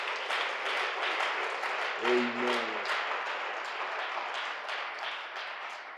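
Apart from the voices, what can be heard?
audience clapping hands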